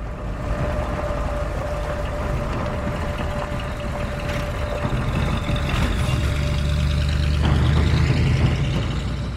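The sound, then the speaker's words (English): The engine of a rented RV is started and runs steadily with a low, continuous rumble, its pitch shifting slightly as the vehicle slowly pulls out of a driveway; no voices. “Moments later, sitting in the driver's seat, he starts the engine.”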